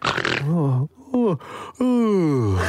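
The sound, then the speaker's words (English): A drawn-out vocal yawn with stretching groans from a woman waking up in her bedroom: a breathy start, a short rising grunt, then a long sliding sigh trailing downward as she stretches. “stretches and yawns.”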